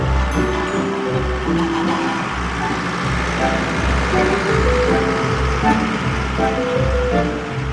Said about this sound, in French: on a parcouru quelques kilomètres en voiture, très peu, hein, on a dû rouler une dizaine de minutes, et nous sommes dans un autre endroit de Donzy.